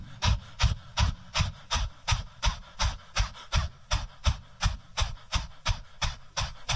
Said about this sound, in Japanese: じゃあ今度はですね、この腹式呼吸のことからさらにちょっと注目しながらやっていきますけど、今スーッとやった時もギューッとお腹を押し込みましたけど、これをワンちゃんみたいな犬の呼吸っていうみたいですけど、それやっていきましょう。はっですね、はっはっはっはっはっ、お腹をねグッと押し込みながら息を吐き出す。